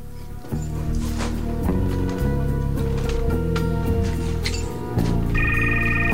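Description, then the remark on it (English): A mobile phone's electronic ringtone chirps in near the end from a drawer of an overturned table in a ransacked warehouse, bright and repeating, over a loud, tense backdrop of low sustained music. “Hearing the telephone, he walks over to an overturned table and reaches into a drawer, pulling out a mobile phone.”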